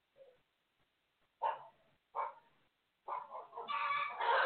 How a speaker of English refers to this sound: All my roosters and hens, they going off.